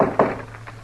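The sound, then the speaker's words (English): Knocking on an unlocked wooden door in a radio western drama featuring Matt Dillon, United States Marshal: two dull, solid thumps close together, followed by a couple of softer taps, with no voices. “Well, come on in. The door ain't locked.”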